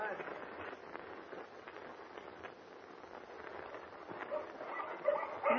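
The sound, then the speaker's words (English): A pack of huskies barks in a dense, overlapping chorus, steady and unbroken for several seconds, against a rough, noisy background. “Those huskies bark, Mr. Kent.”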